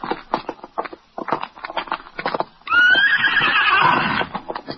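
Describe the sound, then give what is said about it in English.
A steady run of hoof clops gives way to a loud, drawn-out horse whinny with a high, wavering pitch that slowly falls, then the hoofbeats resume faintly. “Let's get to our horses.”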